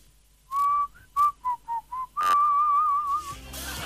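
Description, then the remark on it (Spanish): A person whistles a simple tune with the lips in the classic, basic way, a clear melody of short rising and falling notes followed by one long wavering held tone, with no talking. “Hay muchas personas que saben silbar de diferente manera, pero el clásico o el básico, podríamos decir, el”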